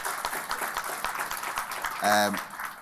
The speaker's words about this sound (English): And keep the applause going for